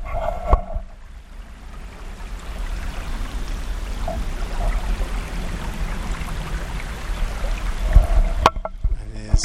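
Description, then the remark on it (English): A creek flows steadily, recorded with a shotgun microphone pointed at it, a continuous rushing babble of water with no talking, broken only by a couple of brief knocks near the start and end. “Now we're up here for the creek, and again with my shotgun microphone I'm going to actually point it at the creek so you can hear it.”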